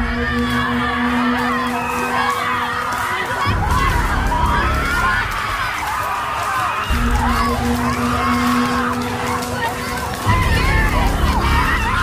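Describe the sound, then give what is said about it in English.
A group of women at a rage retreat scream, sob and wail together in a dense, overlapping roar that persists throughout while smacking sticks on the floor, with a low steady drone switching on and off beneath the voices. “For example, women have a rage retreat, and it encourages them to harness their sacred rage by screaming, sobbing, and smacking sticks on the floor.”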